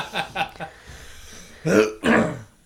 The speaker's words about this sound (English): And, massive dose of anxiety and then. Cough.